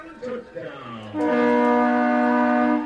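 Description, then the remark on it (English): A train horn blares at a football game after a touchdown, in one long, steady, loud blast that starts a second in and holds to the end, following a brief stretch of talking. “Call off the train horn there.”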